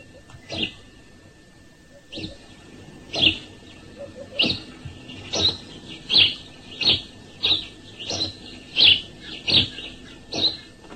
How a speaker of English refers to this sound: That was the species recognition call of the house sparrow. And that is actually the male, is it? That's the male.